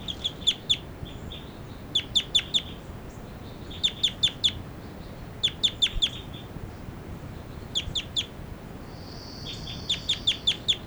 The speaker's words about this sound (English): This is bird 40. Giving flight calls.